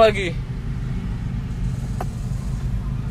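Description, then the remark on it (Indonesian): A motorcycle engine rumbles low and steady, holding a constant drone without a clear rise or fade, with a brief voice at the start and a faint click midway. “Motor ya? Motor, bay. Mau dipinggirin dulu pada motor.”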